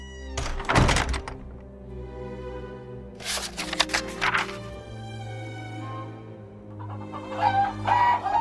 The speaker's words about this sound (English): A hen cackled.